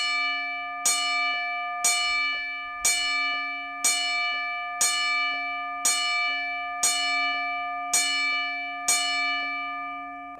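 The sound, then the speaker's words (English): A single bell tolls ten times at a steady pace of about one strike per second, each clear metallic clang ringing on into the next, a ten-bell salute mourning wrestler Hulk Hogan. No voices, just the bell. “Ten bells for the Hulkster.”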